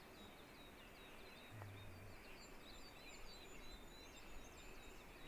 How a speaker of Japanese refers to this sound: さっきの菊頂きとか、その今鳴いてるヒガラとかは、こういう針葉樹が好きな鳥なんですね。